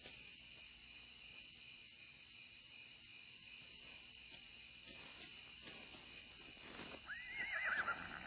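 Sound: horse neighing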